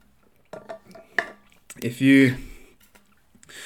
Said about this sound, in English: Well, I've received so many compliments on the fact that I'm just taking a sip mid-sentence. And so, yeah, I'm going to do that. I'm going to take advantage of it.